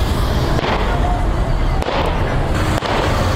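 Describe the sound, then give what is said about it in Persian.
Celebratory gunshots fired into the air in parts of Kabul, Afghanistan, by convoy members carrying pistols and Kalashnikovs: three sharp cracks at irregular intervals, cutting through a loud, continuous wash of outdoor noise. “شمار هم تفنگچه، کلاشینکوف و چاقو به دست گرفتند و در بخش‌های از شهر کابل شلیک‌های هوایی می‌کنند که این کار باشندگان کابل را نگران ساخته است.”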